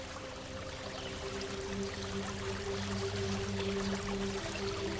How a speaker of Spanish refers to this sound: Desde el puente observas el agua correr, sorteando algunas piedras. Y te transmite una inmensa paz.